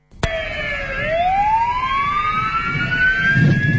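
Ambulance and fire engine sirens of rescue and fire stations in Romania, in Bucharest, Cluj and other cities, wail loudly and steadily for 30 seconds in a solidarity action by emergency workers, their pitch sweeping slowly upward after a sudden start, with low traffic rumble underneath and no voices.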